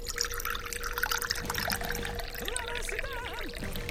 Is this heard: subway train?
no